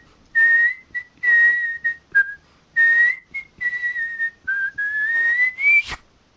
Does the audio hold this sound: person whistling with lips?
yes